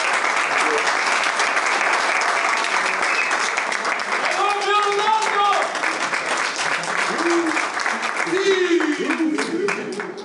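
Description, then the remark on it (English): Sustained applause from a large crowd for footballer Cristiano Ronaldo of Al Nassr, dense and steady clapping for several seconds, with faint cheers and a few voices rising briefly above the noise. “And ladies and gentlemen, another round of applause to our great player and star, Cristiano Ronaldo.”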